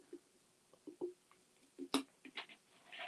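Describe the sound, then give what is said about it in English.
Quiet sipping of water: a string of small wet slurps and gulping swallows, with a sharp click near the middle and a soft breath at the end, no talking. “Sorry, needed some water.”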